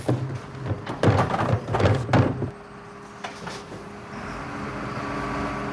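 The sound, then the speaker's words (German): A garbage truck empties bins: a burst of loud metallic clanks and bangs over a low mechanical hum, then the clatter stops and a steady engine drone carries on. “Ach so, dann haben wir nur das Geräusch von dem Müllauto gehört.”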